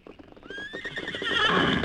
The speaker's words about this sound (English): Well, a big white stallion in a paint, eh?